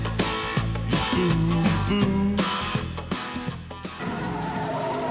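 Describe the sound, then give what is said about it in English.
A car roars off with its tires squealing and skidding, loud, the engine noise and screeching sustained for several seconds with no one talking. “Stop! That's my car!”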